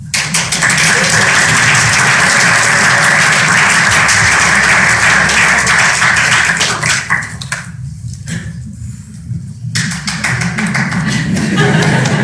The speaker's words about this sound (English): The applause died off a little early. It should have died off about right now. Because you guys came from the back, that's what happens.